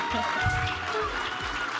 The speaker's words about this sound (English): That is the sound of everyone clapping for us at the Sphinx Theater in the beautiful Sheraton in downtown Seattle.